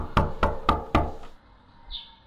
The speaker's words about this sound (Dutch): De monteur drukte op de bel, die niet leek te functioneren, en klopte toen een paar keer aan.